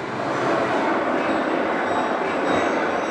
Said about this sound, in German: Im San Mames, dem Stadion von Athletic Bilbao, gehört das Vereinsmuseum zu den Attraktionen. Auf einer Videowand scheppert eine Dampflok durchs Bild.